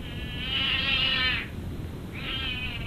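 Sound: cat yowling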